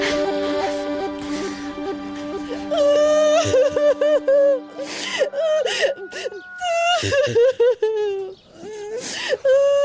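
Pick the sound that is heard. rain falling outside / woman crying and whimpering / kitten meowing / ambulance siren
woman crying and whimpering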